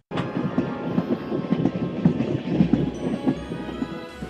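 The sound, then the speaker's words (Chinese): A train rolls along railway tracks, its wheels clacking in a steady rhythm over a continuous low rumble, moderately loud throughout. “而且铁路已经贯穿西部，火车运来盖建房屋用的木材以及可以烧火的木柴和煤。”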